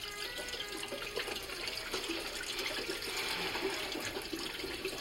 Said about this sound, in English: Waterfall might be nicer. You got it.